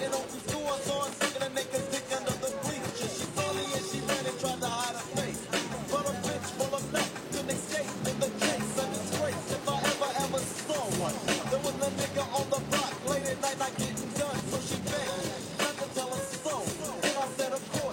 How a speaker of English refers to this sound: Much heavier rain.